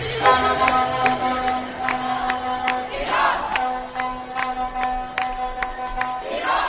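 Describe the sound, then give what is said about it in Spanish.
Celebrating football fans in Moscow cheer and shout after a win sealed by an own goal in stoppage time, in a loud, continuous din, with sustained car-horn tones droning underneath and sharp bangs or claps punctuating the noise throughout. “Mira, vas a escuchar antes cómo están de felices y luego te cuento el partido, ya verás, mira.”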